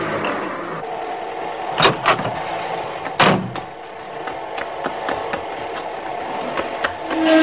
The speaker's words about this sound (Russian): выгоняет из гаража машину.